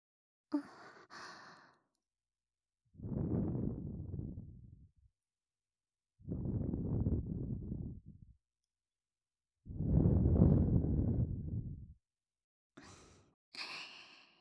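After an ear cleaning, three long, soft breaths are blown into the ear, each an airy, breathy exhale lasting about two seconds with short pauses between, framed by faint rustling at the start and end.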